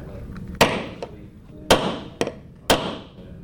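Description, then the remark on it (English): Several sharp hammer strikes on nails ring out at an uneven pace as a 17-year-old student builds a mousetrap car at Ocean Lakes High School in Virginia Beach, each a crisp metallic knock with a short ringing tail, with a lighter tap between them and no talking. “at Ocean Lakes High School in Virginia Beach is making a mousetrap car, and there's a lot of sawing and nails and talk of wheel alignment involved.”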